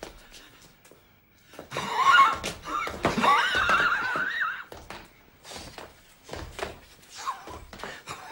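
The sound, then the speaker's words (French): A man's voice imitates a horse's neigh, a loud, wavering whinny lasting a couple of seconds, followed by breathy snorts and shorter vocal bursts. “Vous me montrez un homme qui fait le cheval”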